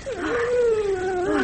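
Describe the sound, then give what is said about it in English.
A dog whimpers in one drawn-out, high, wavering whine that rises and dips over about a second and a half, fairly loud with no talking. “Here, boys. Good dogs.”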